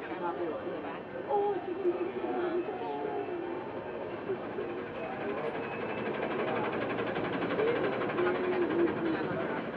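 A tram rolls steadily along its rails with a continuous low rumble and faint squeals, while passengers murmur indistinctly in the background throughout.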